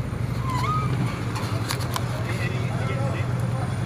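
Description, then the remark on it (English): Police motorcycle engines idle at the end of a group bike ride, with a steady, low throbbing rumble that never lets up, while scattered clicks and faint background chatter drift over the top. “We're at the very end of the ride, and there's a bunch of cops with motorcycles here. Which I don't mind, but it's a little noisy.”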